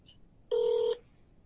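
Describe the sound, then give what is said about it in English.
A single steady electronic beep, like a phone keypad dialing tone, sounds for about half a second as someone dials a cell phone during a live show, clear and fairly loud against a quiet background with no talking. “I'm going to call you on your cell phone.”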